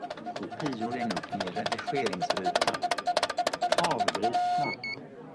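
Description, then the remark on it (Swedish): A blue label printer prints a label onto a transparent plastic strip, whirring with a steady mid-pitched hum and a rapid train of small mechanical clicks under someone talking, then stops abruptly, followed by a short pair of high electronic tones. “Och här skrivs etiketten ut på en genomskinlig plastremsa.”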